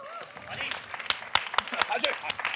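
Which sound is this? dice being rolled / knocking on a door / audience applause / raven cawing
audience applause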